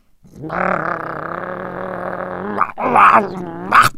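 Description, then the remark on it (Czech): A stray dog growls low and steadily for about two seconds, fairly loud, then lets out two short, sharper snarls. No one speaks. “Kde se vzal, tu se vzal, najednou proti nim stál toulavý pes.”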